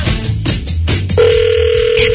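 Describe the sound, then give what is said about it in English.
A phone line rings out through a receiver, a call to wake a sleeping man on his birthday that goes unanswered, a steady electronic ringing tone that starts partway in and holds continuously, preceded by muffled voices and background noise. “He's asleep and you're not there to go, answer your phone!”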